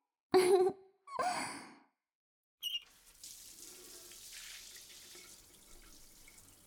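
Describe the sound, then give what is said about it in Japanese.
Two breathy sighs are followed by a short clatter, then a steady stream of water pours and splashes continuously, like a tap or shower rinsing soap foam off, moderately loud. “じゃあまずは泡流しちゃいましょうか。泡まみれなのを流したら、その後が本番ね。”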